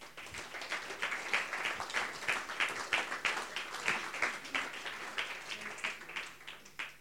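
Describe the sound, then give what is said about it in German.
An audience claps steadily for several seconds as a guest is welcomed onto a show, a dense patter of many hands with a continuous, even rhythm and moderate loudness, no voices standing out. “Jetzt habt ihr nicht so lange geklatscht, dass er bis aufs Sofa gekommen ist.”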